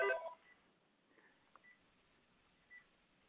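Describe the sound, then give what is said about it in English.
A phone's electronic ringtone gives a short, bright burst of tones at the start, followed by a few faint, scattered beeps against a quiet background, with no one talking. “And, sorry, my phone is ringing. It will stop in a second.”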